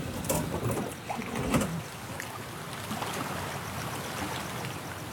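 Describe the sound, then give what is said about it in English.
Water from a full lagoon flowing into the sea rushes and churns steadily around rocks, a continuous dense wash with a few brief knocks and splashes in the first two seconds. No one speaks. “There are a lot of sounds of water moving around the rocks.”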